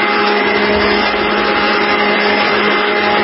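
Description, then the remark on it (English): A vacuum cleaner used to clean a studio runs continuously, a loud, steady roaring whine with a low motor hum underneath and no pauses or voices. “I don't have just any vacuum cleaner. No, I have your vacuum cleaner. I recorded this vacuum cleaner.”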